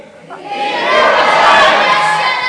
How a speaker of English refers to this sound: Okay, so the more people were shouting, be quiet at Bartimaeus, the more Bartimaeus shouted back, Son of David, have mercy on me!